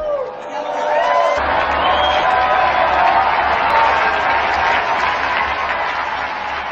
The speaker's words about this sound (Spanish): Brindemos nuestro cálido aplauso a los santos Luis Gonzaga y José Isabel Flores Varela.